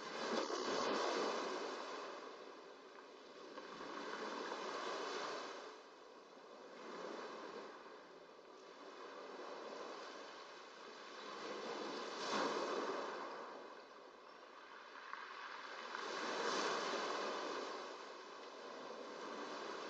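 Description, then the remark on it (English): Ocean waves wash in steady, rolling surges, a broad hiss swelling and easing every few seconds with no voices, a continuous moderately loud rush throughout. “You become aware that gradually, naturally, the movement of your breath, the rhythm of your breathing synchronizes with that of the waves.”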